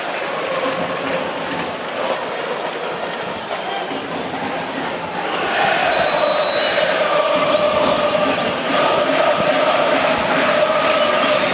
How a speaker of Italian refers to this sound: Cresce l'incitamento di una curva nord stracolma, ricordiamo che tra l'altro è andata esaurita in campagna abbonamenti.